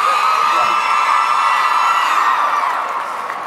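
crowd cheering and applauding

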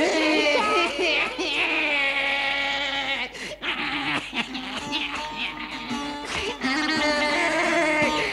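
child crying

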